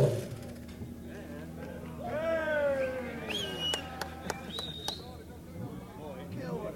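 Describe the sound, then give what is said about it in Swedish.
A Rizla Suzuki racing motorcycle engine lets out a loud, high-pitched whine that sweeps downward in pitch, followed by several sharp popping cracks over a steady, noisy background. “Bravo och applåder för soundet från en Suzuki, en Rizla Suzuki.”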